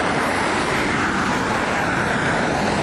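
road traffic passing by

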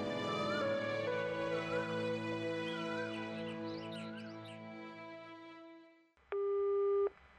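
telephone busy signal

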